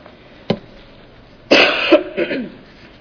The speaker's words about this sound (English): That's okay, I'll try to be as hygiene as possible. Next time I'll do the elbow cough. And I don't think I'm that contagious.